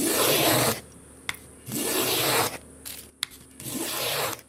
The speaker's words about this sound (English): Davis planes wood for a guitar in his workshop in the bush